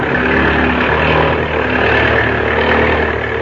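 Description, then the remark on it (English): A propeller plane's engine roars loudly and steadily, its droning hum thick with low harmonic tones as the throttle is opened up wide, with no voices over it. “Now, open the throttle up wide.”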